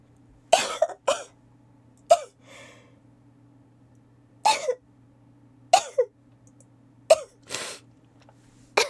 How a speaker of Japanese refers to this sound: 失礼しました、くしゃみが出ちゃった。やだ、恥ずかしい。